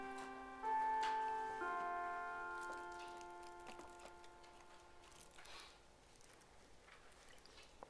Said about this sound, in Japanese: このチャイムを聞くとなんかお腹空いてきた感じになっちゃいますね。ちょっと終わるまで待ちましょうか。